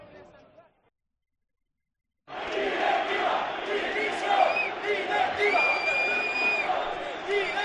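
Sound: football fans shouting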